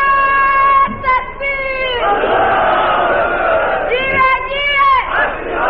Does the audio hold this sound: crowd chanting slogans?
yes